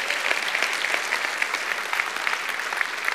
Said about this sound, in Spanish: Dale un aplauso a Dios y se lo va a dar. No a mí, déselo a Dios.